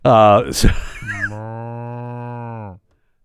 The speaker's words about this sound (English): Now that's a sick cow. And you know that cow. Can you hear a cow sound like that? H5N1. He's got it.